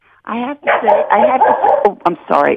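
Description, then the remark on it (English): A dog named Shelby barks in a quick run of four or five yappy, whining barks, loud and clipped, with brief gaps between the bursts. “I think that's your dog, Shelby, who I know has her own Instagram account.”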